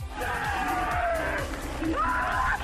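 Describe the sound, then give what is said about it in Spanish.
An Italian cyclist screams and sobs in long, wavering wails after winning the Paris-Roubaix race, loud, over a steady rumble of background noise with faint crowd sounds. “Bueno, seguimos con ruedas, pero en esta no hay motor, en esta lo que hay es espectáculo, y sobre todo hay un tío, un italiano que ayer ganó la Paris-Roubaix y lloraba así.”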